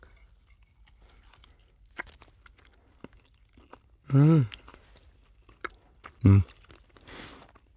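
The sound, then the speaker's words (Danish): Soft, wet chewing of a whole, fatty, salty piece of canned fish, with scattered small clicks and smacks at an uneven rhythm, broken by two short appreciative hums from the person eating. “Og man kan mærke det der med, at du bider et reelt stykke.”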